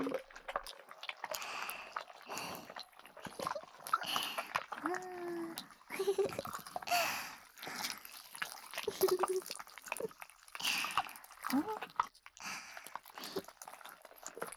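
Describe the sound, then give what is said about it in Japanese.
Wet, sticky squelches and clicks as a slime toy is squished and kneaded over and over in an irregular rhythm, with brief soft vocal sounds now and then. “あらゆる動きを見せるスライムくんの自由さを、音と一緒に、観察だ。”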